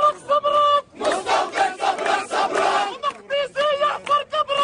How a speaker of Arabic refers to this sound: بحماس تحتضنه وجوه أهالي القدس أطلقت الحناجر هتافات نصرة للرسول قبل أن يردد المسجد الأقصى صدى اسمه الشريف في الأرجاء.